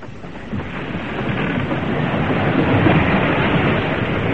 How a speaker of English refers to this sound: Captain Harding, sir! Dead ahead! Storm center, dead ahead!